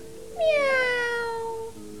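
A single drawn-out cat meow, clear, starting high and sliding slowly downward in pitch before trailing off, with no talking around it.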